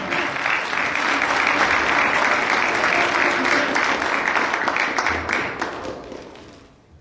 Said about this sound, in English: Amen. Come on and put your hands together for the man of God.